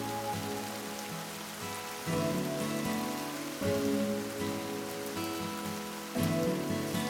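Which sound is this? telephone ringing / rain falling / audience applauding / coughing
rain falling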